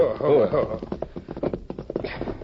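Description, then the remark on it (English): The sheriff's horse arriving, its hooves clip-clopping in a quick, steady rhythm at moderate volume, starting after a brief tonal sound and continuing to the end. “Yeah, that's the sheriff's horse all right enough.”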